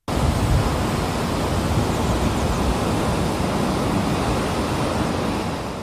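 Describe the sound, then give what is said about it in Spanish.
The Cola de Caballo waterfall, where the Piedra river plunges 56 metres in the Parque Jardín Histórico, roars with a dense, unbroken rush of falling water, loud, holding steady for several seconds with no voices or other sounds. “Así suenan las aguas del río Piedra precipitándose en una caída de 56 metros de altura en pleno corazón del Parque Jardín Histórico.”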